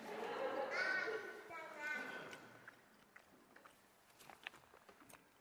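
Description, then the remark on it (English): Chewing of bacon: a couple of seconds of muffled voice give way to a run of small, sharp, irregular crunching clicks, fairly quiet. “I'm chewing this as fast as I can.”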